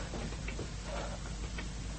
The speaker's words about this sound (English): No, not boot heels, something else. A clock. It is a clock on the wall right above me.